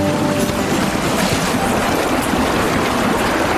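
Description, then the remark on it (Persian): A steady rush of dirty wash water, left over after washing, is poured and splashes down without pause, loud, a dense hissing wash that fills the whole stretch with no voices. “حالا آبچرکاشم میپاشیم پایین.”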